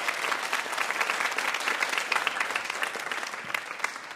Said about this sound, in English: Big round of applause for our VIP, Julie Klausner, everybody.